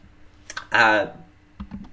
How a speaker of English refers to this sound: And I'm typing, and this is Good Radio Dale typing into the chat room.